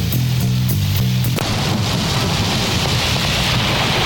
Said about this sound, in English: I think it's raining out.